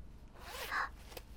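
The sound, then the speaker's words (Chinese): A single quick clothing zipper pull inside a car, a short rising zip lasting under a second, fairly quiet, followed by a faint rustle of clothing. No one speaks. “等一下，别硬扯，这有拉链的。”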